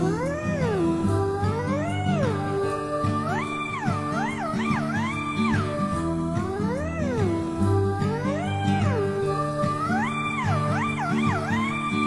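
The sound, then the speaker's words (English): A black cat meows over and over, its drawn-out, wavering cries rising and falling in quick succession above a steady musical backing, loud throughout. “Oh no, it's a black cat.”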